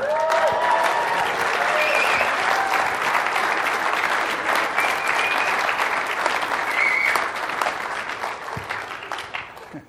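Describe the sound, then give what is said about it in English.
A large audience applauds steadily with dense, sustained clapping and a few faint voices mixed in, holding loud for most of the stretch before thinning out slightly toward the end. “You got more applause than Chad, I think.”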